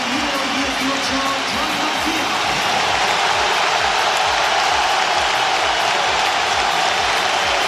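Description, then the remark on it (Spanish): A large football stadium crowd applauds and whistles at the debut of Joan García, a dense, continuous roar that stays loud and steady for the whole stretch, with no voices standing out. “Los que estáis escuchando o viendo por la tele, en el campo se ve que hay muchos más aplausos, aunque suenen pitos.”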